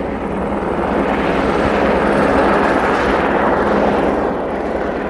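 helicopter flying

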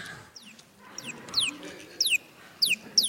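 bird calling

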